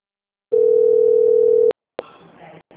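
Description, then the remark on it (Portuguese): A steady, mid-pitched phone dial tone drones loudly for about a second after a phone call drops, then cuts off with a click before faint, muffled voices and handling noise follow. “foi que a ligação caiu.”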